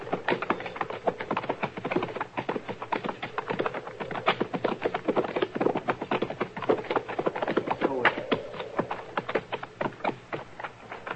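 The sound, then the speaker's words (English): Horses are ridden toward a stand of trees with a shack behind them, hooves clip-clopping in a steady, dense clatter of overlapping hoofbeats, fairly loud throughout, with no one speaking. “All right, we'll ride up to them and look it over from there.”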